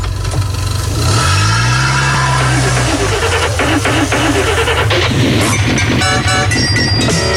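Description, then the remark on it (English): A car engine revs loudly, its pitch sweeping up and holding for a couple of seconds before dropping away, then a bright musical jingle kicks in over the engine noise. “High time we fired up this karaoke engine.”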